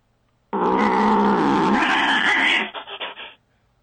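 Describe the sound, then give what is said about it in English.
An alley cat lets out a loud, ferocious roar, sustained for about two seconds, then breaking into a few rough, choppy grunts before falling silent. “That was the cat?”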